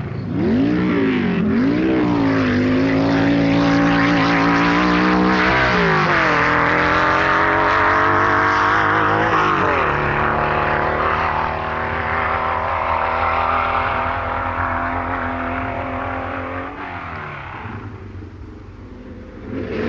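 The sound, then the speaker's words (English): An unblown 2-litre German flat-four Porsche engine in a racing car roars loud and continuous at Blackbush Airport, its rasping note rising and dipping as it revs through gear changes over the uneven surface with solid rear suspension, before easing off near the end. No voices. “the typical note of the unblown flat four-cylinder engine reacting to the solid rear suspension and rather uneven surface of Blackbush Airport.”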